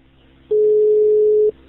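A telephone ringing tone as a police officer calls a man at 15:36 on a Sunday afternoon: one steady, mid-pitched electronic beep lasting about a second, loud and alone over a faint background hum, with no voices.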